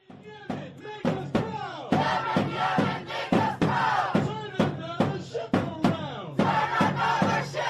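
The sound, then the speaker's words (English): A large crowd chants loudly in a steady, repeating rhythm in the streets of New York after the strikes on the Houthi rebels, many voices shouting together, punctuated by sharp percussive hits like claps or drumbeats. “These are the chants in New York streets after we hit back the Houthi rebels, who mm-hmm.”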